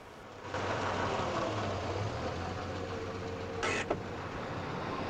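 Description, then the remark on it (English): An expensive black car's engine idles with a steady low rumble and hum as it is parked at the front of the Grand Hotel in daytime; a short whooshing burst and a click come near the end. Nobody speaks. “And Harding parks his expensive black car at the front of the Grand Hotel.”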